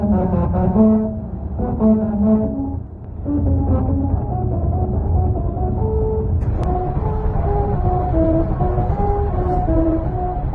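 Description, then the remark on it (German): Car tyres rolling over a musical highway in Turkey, whose grooves make the tyres vibrate at set pitches, droning out a stepped Mozart melody in buzzy, hum-like tones over a steady low road rumble, with no talking. The sound is heard from inside the car, driven at a constant speed at the speed limit. “Ihre Rillen lassen die Autoreifen in bestimmten Tonlagen vibrieren und so sind im Inneren des Autos Töne zu hören.”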